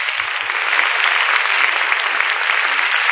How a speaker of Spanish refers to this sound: ¡Fuerte el aplauso, Señor!